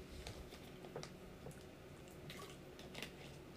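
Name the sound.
drinking water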